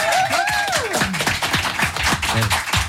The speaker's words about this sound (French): J'ai même pas lancé le jingle, ils applaudissent déjà. C'est un truc de malade.